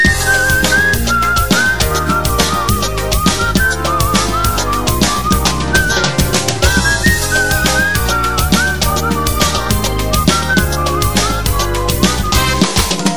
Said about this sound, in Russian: Но не забыл Баку родной и мой веселый бакинский свист.